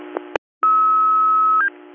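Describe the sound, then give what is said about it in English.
A steady electronic tone holds for about a second over radio hiss, then jumps briefly to a higher pitch: dispatch paging tones for the Kentville fire department, sounding through a scanner after a sharp click. “Kentville Fire, disregard your tones.”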